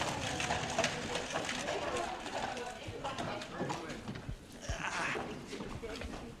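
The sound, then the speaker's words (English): The hooves of a black horse, apparently a stallion, clip-clop at a steady walking pace ahead of a carriage on a car-free Sunday, a string of sharp strikes over a busy outdoor background with indistinct murmuring voices. “horse, apparently a stallion, followed by the official Happy Station carriage”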